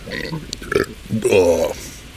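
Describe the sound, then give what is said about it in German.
A loud, croaky burp into a microphone rumbles out for about half a second, preceded by a shorter guttural gulp-like sound, with faint breathy noises around it. “Hört ihr eigentlich durch das Mikro auch die Geräusche, die so in meinem Bauch vom Innen kommen oder nur, was ich so von außen rein rülpse?”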